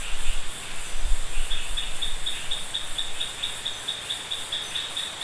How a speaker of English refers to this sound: And what you can now hear, just as we started, is the sound of rain. So, yeah, it'll be a rain in the rainforest recording.